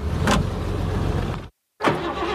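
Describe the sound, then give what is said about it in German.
An old car engine's starter cranks with a dense, grinding low rumble and a brief whirring burst, cuts out for a moment, then resumes loudly. No one speaks. “Also das Anlassergeräusch hört sich an wie aus den 50ern.”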